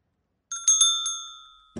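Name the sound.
doorbell chime being pressed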